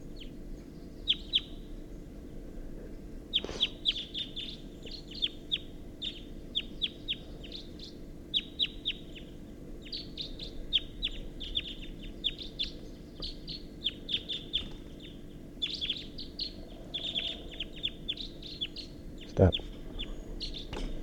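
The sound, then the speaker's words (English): At least a pair of wild birds call from an oak tree at 6:14 a.m. in repeated bursts of short, high chirps and tweets over a steady low hum, with one louder sharp sound near the end. “And they're calling from the oak tree, and there's one in the oak tree, and that's a wild bird.”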